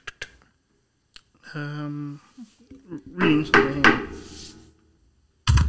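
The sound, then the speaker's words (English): A few sharp, hollow knocks on wood, made as a sound effect for someone knocking on a door, spaced unevenly like rapping on a door, with a voice talking in between and a louder final knock at the end. “I was doing sound effects for knock.”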